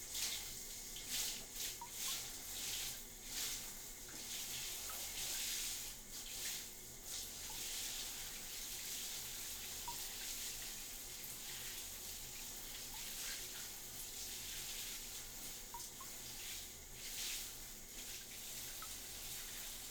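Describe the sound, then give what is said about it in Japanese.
Water pours steadily in a bath, rinsing soap foam away with a continuous splashing hiss that stays close and fairly loud for the whole stretch, with no voices. “そうと決まれば一旦泡洗い流すよ。”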